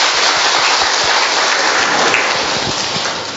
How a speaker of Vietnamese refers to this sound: Chúng ta hân hoan mừng lễ của các ngài thật vui tươi, phấn khởi. Một tràng pháo tay thật lớn thưa anh chị em.